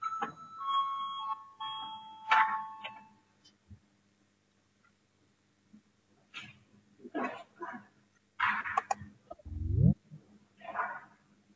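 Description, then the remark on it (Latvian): An electronic voting bell in the Latvian parliament rings with a sustained, tonal chime for a few seconds before a vote on proposal 20, then stops, leaving quiet with scattered soft knocks and shuffling noises. “Lūdzu, zvanu balsosim par 20.”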